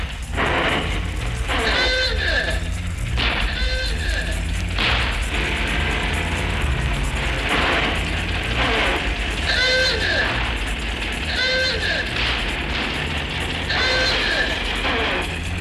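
A veteran car chugs along with a steady rumbling engine, its horn honking loudly in short, nasal, bleating blasts several times at irregular intervals.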